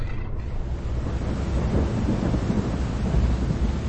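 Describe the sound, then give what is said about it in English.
A thunderstorm with heavy rain pours down steadily, its dense hiss underpinned by a deep, rolling rumble of thunder and gusty wind, loud with no voices. “Bane's challenge hung in the air, as if the relentless sheets of rain had somehow trapped his words.”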